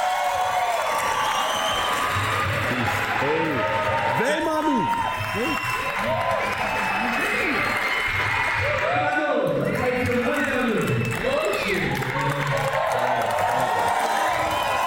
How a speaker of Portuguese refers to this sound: Muita gente, muita gente aplaudindo de pé. É isso. Aplaudindo de pé, muita educação.